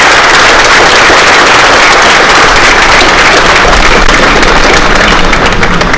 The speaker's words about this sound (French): et je voudrais qu'on puisse vous applaudir tous les deux. Merci à vous.